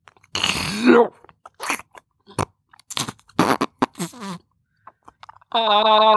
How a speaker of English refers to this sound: do you have a sound example of that kissing each other?